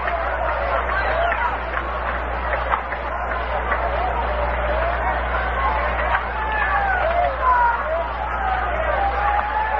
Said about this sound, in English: Greeted by the crowd as he comes on to hit for Stallard in the ninth inning. They know Marv every place he goes.